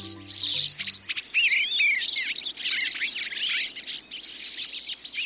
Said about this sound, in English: The sights and sounds of birds visiting a feeder in the backyard or a local park can brighten our days during the darker months of the year.